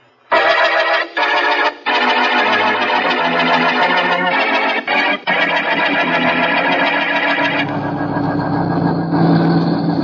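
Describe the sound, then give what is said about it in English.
A loud truck engine roars on a road, steady and droning with a few brief cuts, its pitch dropping into a deeper rumble near the end. “I've got to get my truck through.”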